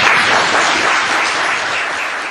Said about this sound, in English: Please give a warm applause to our speaker tonight